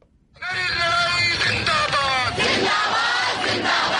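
A large crowd of student protesters in New Delhi, India, chants and shouts together, demanding that the government scrap a new citizenship law. A loud, dense wall of raised voices surges in after a brief quiet start and holds steady throughout.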